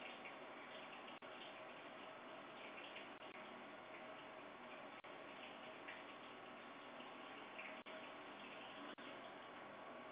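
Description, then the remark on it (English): Steady, dense hiss of running water from a shower fills the whole stretch, with a few faint clicks breaking through now and then. No one speaks. “No, I do not. You caught me. I'm in the shower.”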